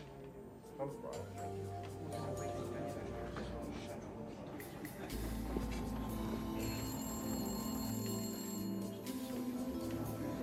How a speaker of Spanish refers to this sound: En el momento justo, sonó el teléfono.